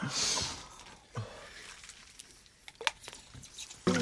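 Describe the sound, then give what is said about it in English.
A short burst of water pouring, a hissy rush at the start, then scattered splashes and drips trailing off, with no one talking. “Water, please.”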